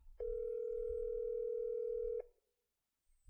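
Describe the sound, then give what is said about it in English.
A steady, unbroken telephone tone hums at moderate volume for about two seconds over faint low rumble as a person's own phone calls his wife, then cuts off abruptly into near silence. No one speaks. “All right, let's try using my phone. Okay. I'm going to call my wife.”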